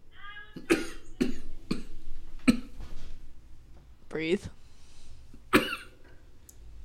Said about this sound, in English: I can't get rid of this cough. Oh, it's just like that little phlegm every time. It's just like, oh crap, now I'm going to cough for an hour and a half. Because it's warm, cold, warm, cold, warm, cold.